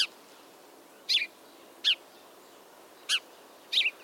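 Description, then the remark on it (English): House sparrow chirping: five short, bright chirps spaced irregularly, clear against a quiet background, with no voices. “Those Disneyland birds were house sparrows. I remember them chirping and begging me for French fries, as is the custom of their kind.”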